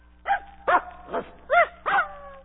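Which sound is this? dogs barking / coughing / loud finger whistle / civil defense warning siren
dogs barking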